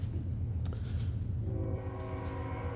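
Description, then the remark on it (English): A train rumbles past on tracks running right behind a building, with a heavy, steady low roar, and a sustained horn-like tone swells in partway through. No one speaks. “If you're visiting, train tracks run right behind our building.”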